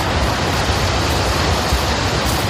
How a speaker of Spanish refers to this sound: En Sevilla, cualquiera que haya visto las imágenes del pantano de Jergal desembalsando agua, como estás escuchando, sabe que no ha podido caer más agua en los últimos días